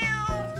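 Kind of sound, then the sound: animal, cat meowing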